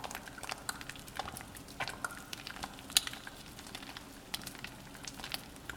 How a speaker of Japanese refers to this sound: 体に実際につけてみるのもいいけどね。泡の音を聞いているだけでふわふわに包まれてるみたいでしょ。